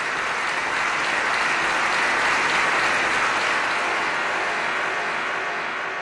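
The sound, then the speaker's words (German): Thunderous applause fills the whole clip, a dense, steady roar of many hands clapping at once, loud and sustained for about six seconds without any voices rising above it. “Dabei soll er immer tosenden Applaus geerntet haben.”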